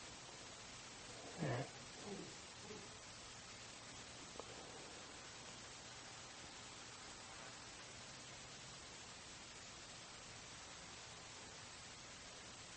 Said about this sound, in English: The sound of the faint hum of distant traffic.